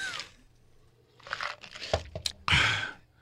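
Someone sips water, with crinkly, crunching bursts like a plastic bottle being squeezed and a few short gulping sounds, alone with no talking.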